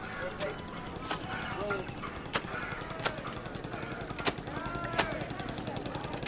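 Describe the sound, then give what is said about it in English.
A man beats laundry against a rock in sharp, loud smacks roughly every second or so, by the river in Varanasi, India, over a busy outdoor backdrop of voices and murmuring chatter. “There's a man doing laundry on a rock.”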